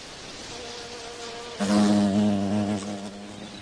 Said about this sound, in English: Diasia flowers use not nectar, but nutritious oils, secreted by glands at the tips of their floral tubes to tempt pollinators. Flower and bee, in this case a perfect fit as the insect dips its toes for oil.